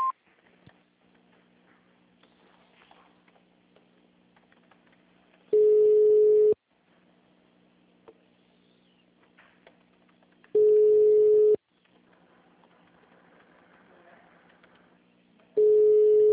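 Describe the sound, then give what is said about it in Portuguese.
A telephone line tone after a city hall's automated digital-service greeting asking callers to dial an extension or wait: three loud, steady mid-pitched beeps, each about a second long, repeating roughly every five seconds, with faint line hiss and hum in the gaps. “Após o sinal, digite o ramal ou aguarde.”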